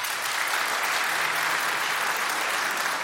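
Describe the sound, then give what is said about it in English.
An audience claps steadily for a few seconds, applauding to show how many of them say 'pop' for soda, a dense, even wash of many hands applauding together with no voices standing out. “By applause, how many people say pop?”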